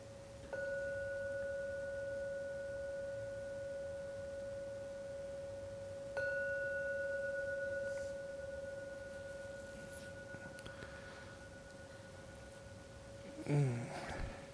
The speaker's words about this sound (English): And now I'm going to ring the gong 3 times. That's a signal that the time for meditation is ended. So please listen to every sound from the gong. When the last ringing vanishes, then come out from the meditation.